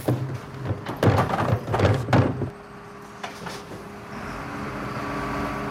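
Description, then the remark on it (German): A garbage truck emptying trash bins, its engine droning steadily as several loud metallic clanks and bangs ring out over the first couple of seconds, then settling into a lower rumbling hum. “Dann haben wir nur das Geräusch von dem Müllauto gehört.”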